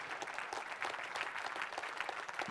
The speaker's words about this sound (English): All right, you can clap.